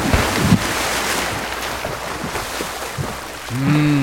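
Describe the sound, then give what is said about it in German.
Steady washing surf at a beach, with a brief splashy thump early on as someone takes a run-up on the beach and jumps into the water, and a short tonal swell near the end; no one speaks. “Badehose an, ein bisschen mit dem großen Zeh im Wasser vorfühlen, am Strand Anlauf nehmen und...”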